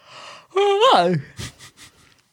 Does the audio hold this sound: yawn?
yes